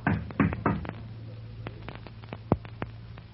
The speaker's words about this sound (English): Shall I knock on the door for you?